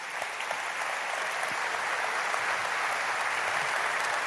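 A church audience breaks into sustained applause to the Lord, a dense, steady wash of many hands clapping at once that holds evenly from start to finish with no speech over it.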